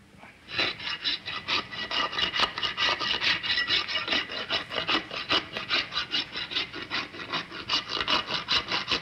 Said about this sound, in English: W59, take one, filing horse's hoof.